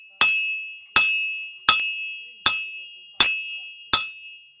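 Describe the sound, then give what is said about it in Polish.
Six ringing hammer blows on metal land at a steady, unhurried rhythm, each a sharp clang that leaves a bright metallic ring decaying before the next strike, as at an anvil, struck by a 75-year-old blacksmith in Siemiony, Grodzisk commune. “Jeszcze młotem się stuka.”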